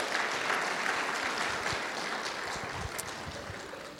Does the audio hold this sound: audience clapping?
yes